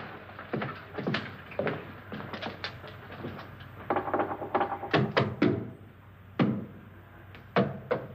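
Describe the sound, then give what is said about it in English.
Dull, hollow knocks on a wall come in irregular bursts, some single and some in quick clusters of two or three, moderately loud against a faint background hum. “Now, I'm going to knock on the other wall. When you hear me, you knock on this wall.”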